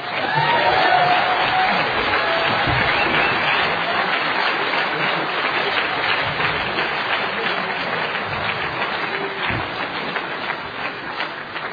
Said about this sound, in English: How about another applause for our great speakers, huh?